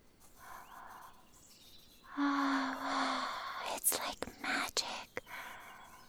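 drawing on paper

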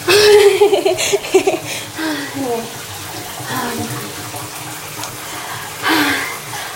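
running shower water

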